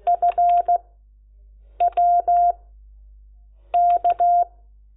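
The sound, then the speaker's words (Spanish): Three quick clusters of telephone touch-tone dialing beeps, each a run of three or four short, steady electronic tones separated by brief pauses, with no voices. “No suena muy bien, pero lo vuelvo a repetir. Bueno, ya sabemos que es un 7.”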